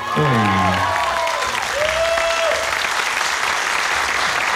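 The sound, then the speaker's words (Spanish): Steady applause from a studio audience fills the room, dense and sustained, with a brief voice and some tonal sounds near the start before the clapping carries on alone. “Un aplauso, por favor.”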